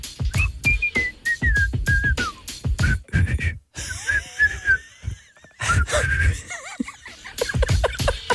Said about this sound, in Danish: Så kan du lige fløjte den her?